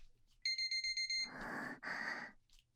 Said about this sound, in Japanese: 性奴隷お仕置きタイマーなりました。